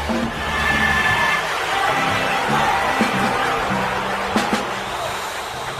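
A festival crowd boos and jeers in a steady, dense roar that holds for several seconds, with faint music and a few sharp knocks poking through the noise.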